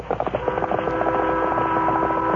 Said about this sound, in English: As they approached Bent's Mountain, the Lone Ranger heard the whistle of the eastbound train.